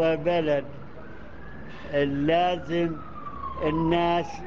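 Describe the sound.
An ambulance siren holds a steady wailing tone that shifts in pitch as it races past, while people talk in short bursts over it.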